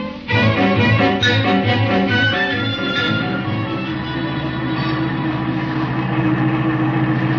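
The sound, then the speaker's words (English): A car engine idles steadily as the car pulls in behind another car, a low, rumbling hum with faint rhythmic pulsing early on, holding at a fairly loud, constant level with no voices. “I'll pull in behind their car.”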